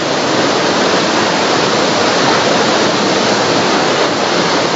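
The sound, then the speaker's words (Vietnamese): Heavy rain pours down in a steady, dense hiss that stays loud and unbroken throughout, with no voices or other sounds breaking through the constant roar. “Chị em ngồi vào chỗ này, trong đi vào trong này đi, khỏi bị ướt, khỏi mưa áo mưa mới gì lộn xộn.”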